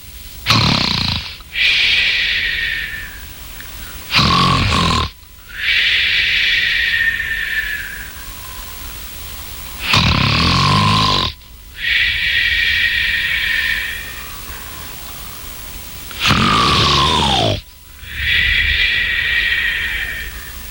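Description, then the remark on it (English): Loud, rhythmic snoring of a sleeping giant repeats about four times, each cycle a rough rattling inhale followed by a long whistling, wheezy exhale, prominent with no talking. “The magic harp began playing such a sweet lullaby that soon the giant fell asleep and began snoring loudly.”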